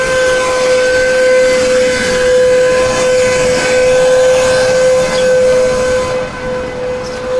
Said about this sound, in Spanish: entonces ahora vamos a pasar por alguien que está aspirando su coche en la calle. Pasamos rápidamente y seguimos hablando.